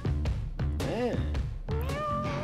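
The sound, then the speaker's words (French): A person imitates a cat, giving a drawn-out meow with a rising and falling pitch, followed by a second, longer meow-like wail against a noisy, busy background. “Qui c'est qui rendrait un chat dans la place?”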